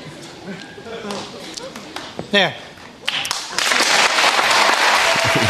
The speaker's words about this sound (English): He pasted it back together before any joke, any monologue. They're applauding pedophilia, everybody.